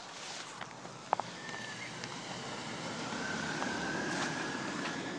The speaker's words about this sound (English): Wow, two cars.